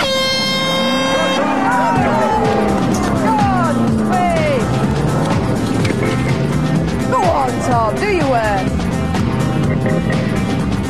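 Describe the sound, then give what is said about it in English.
A klaxon blares briefly at the start, then a farmer's vehicle engine revs and roars amid rattling and skidding as it is driven aggressively over a hill to slop liquid out and braked hard, with excited voices calling out over it. “has got his hands on the farmer's mighty motor.”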